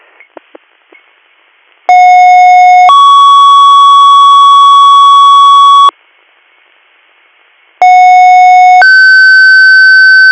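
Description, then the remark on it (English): Two loud, steady two-tone fire dispatch pager alerts: each begins with a short lower tone that steps up to a longer, higher held tone, separated by a brief pause, with a few faint clicks beforehand. The alert dispatches a medical call in Alderwood. “I'm 3rd due tones for 2nd due, Waverly, 37 North Chemung Street, Alderwood, room 213, bed A, for medical.”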